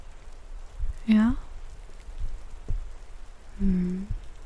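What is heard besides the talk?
rain falling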